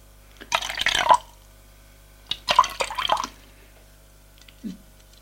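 A father serving drinks pours liquid into glasses twice in short splashy bursts, each lasting about a second, with a brief soft knock afterward. No one speaks.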